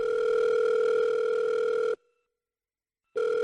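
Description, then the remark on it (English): A phone call placed from a mobile phone ringing on the line: a steady electronic ringback tone holds for about two seconds, cuts to silence for just over a second, then starts again, clear with no voices. “She pulled out her phone.”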